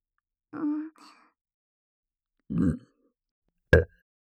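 A voiced burp starts things off, then a second deep, gurgly belch and a short sharp one after pauses; three separate deliberate belches, loud and recorded binaurally, with no talking.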